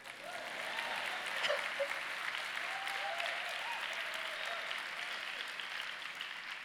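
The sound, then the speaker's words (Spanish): An audience of women applauds, a steady, dense wash of clapping that holds at an even level for several seconds with a few faint voices mixed in. “¿Mujeres aplaudan?”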